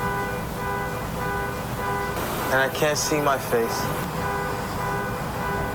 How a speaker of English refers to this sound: I hear street noise. The streetcar. Traffic.